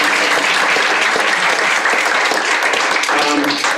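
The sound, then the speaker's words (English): Sustained, loud applause from an audience, a dense wash of many hands clapping at once that fills the whole moment without letting up. “So let's hear it for them.”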